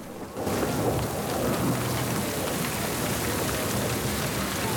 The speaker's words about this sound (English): A moment passes between them before the heavens suddenly open and they make their way through a torrential downpour to a door at the rear of the house.